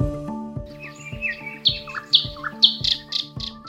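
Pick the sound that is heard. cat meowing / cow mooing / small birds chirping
small birds chirping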